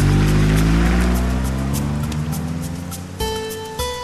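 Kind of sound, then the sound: vehicle, taxi car driving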